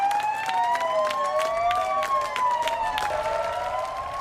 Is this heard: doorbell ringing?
no